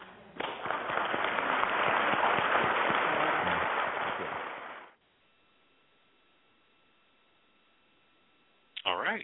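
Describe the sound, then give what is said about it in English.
A crowd applauds loudly and steadily for about five seconds, then the clapping cuts off abruptly into near silence with a faint hum, followed by a brief burst of voice at the end. “And for that, I know that we all applaud you.”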